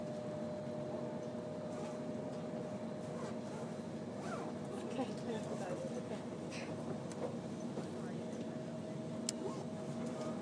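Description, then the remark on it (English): Steady train interior ambience: a constant low rumble and droning hum with occasional faint clicks and rattles, and indistinct murmuring voices mixed into the background throughout. “Well, you're getting a train ambience while I...”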